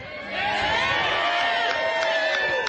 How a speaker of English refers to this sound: That's who you're hearing in the background. We'll keep with this, though. I just wanted to let you know who you might be hearing screaming in the background.